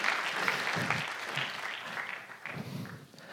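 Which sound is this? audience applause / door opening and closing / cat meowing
audience applause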